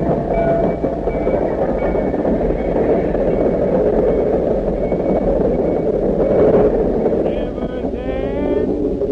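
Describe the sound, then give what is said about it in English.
A train rolls into a station with a loud, steady rumble and clatter, ending in high-pitched brake squeals as it slows at the platform; faint voices murmur beneath the noise. “There's the train now.”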